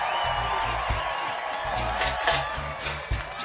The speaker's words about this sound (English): Last but definitely not least, on Hammond B3, accordion and vocal, please get your hands together. Give my father a round of applause.